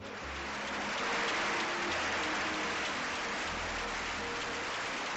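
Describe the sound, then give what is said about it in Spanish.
Steady, dense applause from a crowd greeting the president of the Community of Madrid as she receives an award from the Asociación de Víctimas del Terrorismo. A continuous loud crackle of many hands clapping without pause for about five seconds, with no voices over it. “Ya ven ustedes, aplauso cerrado.”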